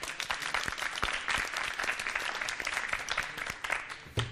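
audience applause

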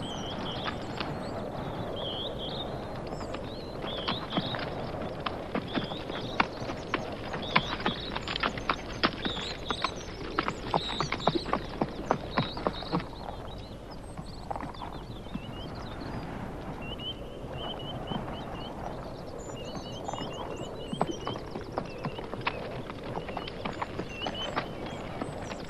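horse hooves clip-clopping

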